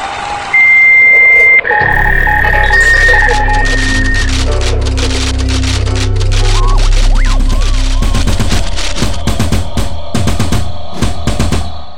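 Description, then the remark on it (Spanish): Dense, crackling applause for everyone who took part in Mujeres Poderosas builds over a mix of steady electronic tones and a low rumble, growing into loud, rapid clapping that fills the final seconds with no voices. “Aplausos para todos los que participaron en Mujeres Poderosas.”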